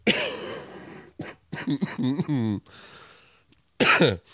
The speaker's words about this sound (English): That's that shitty cough I was talking about.